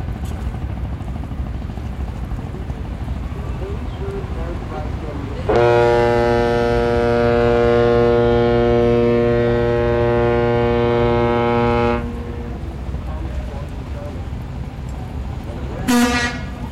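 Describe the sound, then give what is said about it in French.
A long, deep ship horn blasts steadily for about six seconds over a constant rumble of intense river traffic on a waterway nearly a kilometre wide, with boats of all sizes: cargo ships, three-deck vessels, ferries, barge trains, wooden and iron junks and sampans. A brief higher toot follows later; a voice murmurs faintly. “une artère de près d'un kilomètre de large avec le trafic intense des bateaux de toute taille”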